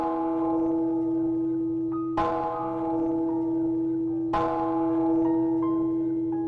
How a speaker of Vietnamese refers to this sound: Chợt, nghe chuông chùa vẳng lại ba hồi buồn bã.